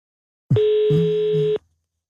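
A single steady telephone ringing tone plays over a phone line as Radio 24/7 in Copenhagen calls a listener, a clear, fairly loud beep lasting about a second before cutting off into silence. Nobody speaks.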